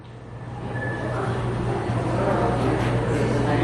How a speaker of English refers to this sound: Beautiful Nat sound of the museum. Well, it was crowded. It feels like we're there.